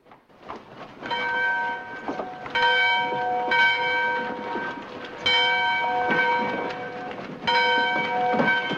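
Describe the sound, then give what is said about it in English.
A large bell rings loudly and repeatedly, each resonant stroke landing every couple of seconds and humming on, over a low rumbling, clattering background with no voices. “At the sound of the ringing bell, the townsfolk scurry into action and the civilians in the bank hurry out.”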